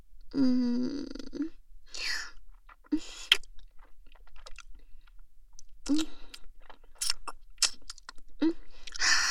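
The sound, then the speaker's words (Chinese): Wet chewing of soft, slippery, chewy abalone, with irregular smacking and clicking mouth sounds, opening with a brief hummed "mm" before the steady munching continues. “这个鲍鱼好鲜，好有嚼劲啊，滑滑嫩嫩的。”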